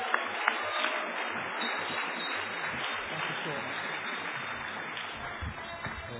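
An audience applauds in a steady, dense wash of clapping that holds for about six seconds, opening with a few sharp individual claps before the sound evens out.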